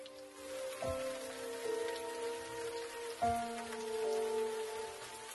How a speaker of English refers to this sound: The next day is as wet as the one before, a steady downpour that fills the echoing rooms with a harsh rush of noise. It reminds Derek of the roar of fire, and makes his fingernails hurt.